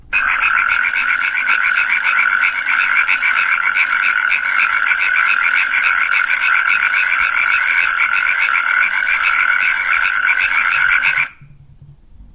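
A natterjack toad's loud, continuous rattling trill, a rapid stream of mid-pitched pulses that holds steady for about eleven seconds and then stops abruptly, leaving faint background hiss.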